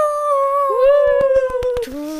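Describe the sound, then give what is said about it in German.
A party horn sound effect marking a one-year anniversary blares a long, buzzy toot that slides slightly in pitch, then drops lower at the end, while a quick run of sharp pops and clicks sounds through the middle. “Soundeffekt von Tröten.”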